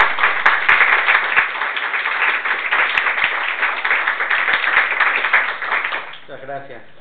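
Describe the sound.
A room full of people claps steadily for about six seconds, a dense, even patter of many hands that fades out as a single voice begins to speak.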